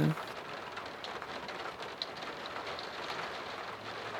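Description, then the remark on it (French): Steady rain hisses down, a dense wash of drops that swells and eases slightly in waves, with one brief sharper patter partway through and no voices. “On peut suivre l'évolution de la pluie, ça fait comme des vagues où tout d'un coup ça s'accélère et puis tout d'un coup ça se réfrène.”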